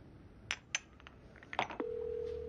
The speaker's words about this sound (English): It's ringing.